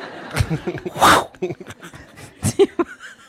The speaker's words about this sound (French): Waouh! Il y avait un gros éternuement là. Ou alors, ouais, soit quelqu'un a éternué, soit quelqu'un est parti en balle.